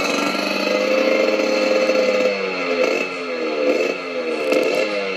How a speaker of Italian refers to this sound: Paura, passa una moto, il suono della marmitta che mi rimbomba dentro, mi terrorizza